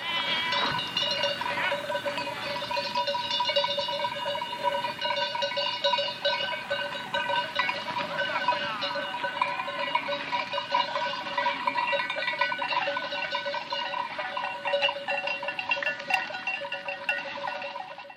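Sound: flock of sheep bleating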